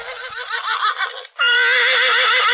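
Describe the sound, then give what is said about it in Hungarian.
A horse neighs loudly, a long quavering whinny that briefly breaks off and then resumes as a sustained, steady call filling the whole couple of seconds. “Ha ma vicc van, akkor ma a vicces lovunk nevessen rá, jó?”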